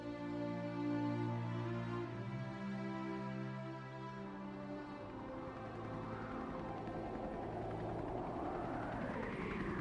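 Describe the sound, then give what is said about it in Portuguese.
A helicopter flies overhead over the area, its rotor throbbing in a steady low pulse with a strong engine hum, loud, the pitch shifting as it passes. “ouviu o som de um helicóptero sobrevoando a área.”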